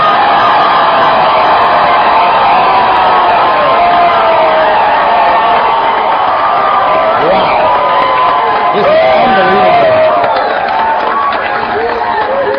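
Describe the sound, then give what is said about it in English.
A huge campaign rally crowd in Portland, Oregon, the largest crowd of the campaign, roars and cheers without pause, a loud, dense wash of voices with scattered whoops and shouts rising out of it. “And you have just broken the record for the largest campaign, largest crowd this campaign has seen.”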